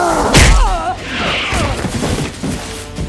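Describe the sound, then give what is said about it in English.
A single heavy whack lands near the start, a slap from a large reptilian creature's forearm sending a woman flying a dozen feet down a street: a sharp, weighty impact followed right away by a strained vocal cry and scuffling commotion that trails off. “He slapped her aside with one of his deceptively small forearms, and the force of the blow sent her flying a dozen feet down the street.”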